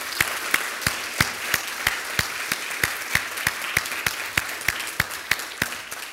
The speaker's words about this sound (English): And before you take your Bibles, let's just give … just another good round of applause.